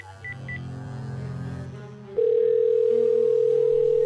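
signal or alarm, phone call ringing tone

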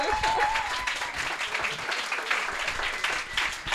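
crowd, audience applause

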